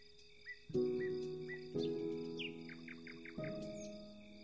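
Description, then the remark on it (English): A nightingale sings in short, bright chirps, then a quick run of repeated falling notes, set over soft, sustained musical chords that shift every second or so. No one speaks. “Just as the nightingale song helps you soften and relax, its notes also reach the rose, causing it to bloom beautifully.”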